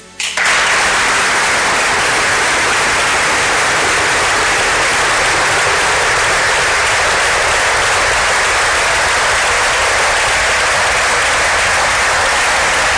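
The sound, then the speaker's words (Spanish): Loud, sustained applause from teammates at the Lezama facilities at the farewell of footballer Raúl García, a dense wash of clapping that starts abruptly and continues steadily without pause for the whole stretch, with no voices rising above it. “Bueno, pues el aplauso de los compañeros atronaba hoy las instalaciones de Lezama en la despedida de Raúl García, que se marcha, como digo, a final de temporada, y que contestaba preguntas del club cuando ha anunciado esa retirada.”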